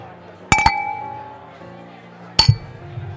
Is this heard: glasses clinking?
yes